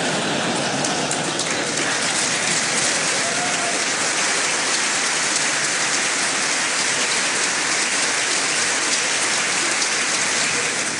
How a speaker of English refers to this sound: Thank you. I never get such nice applause from the Japanese Diet.